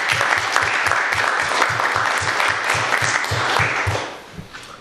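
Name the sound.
round of applause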